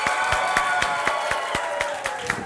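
A church audience gives a thunderous applause for the senior pastor and his wife, a dense, steady wash of clapping, with sharp claps repeating in an even beat about four times per second. It is loud throughout, with no speech.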